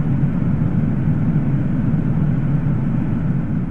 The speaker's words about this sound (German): Es handelt sich um den Avro RJ85. Eigentlich ein zuverlässiges Flugzeug aufgrund seiner 4 Turbinen.